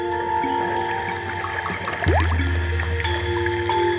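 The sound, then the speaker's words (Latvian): Muffled underwater ambience with steady droning tones and faint regular clicks, broken by a single rising whistle-like call midway as a deeper rumble swells and continues. No one speaks. “jā, man varbūt pašai nav nekādas tur īpašas zināšanas par bioakustiku un to, kādas skaņas varbūt rāda katrs dzīvnieks, tomēr kaut kādas atsevišķas saucienas un skaņas zem ūdenes varēja dzirdēt, un tas bija ļoti tāds pašai sajūta kā tādam pētniekam.”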